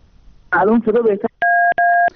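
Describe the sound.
A male caller's voice on a phone-in to Radio Farda speaks briefly, then two loud, steady two-pitch telephone line beeps sound on his line, each lasting about a third of a second with a short gap between.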